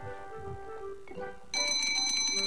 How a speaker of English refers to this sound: could you please find that pesky alarm clock? We'll need it.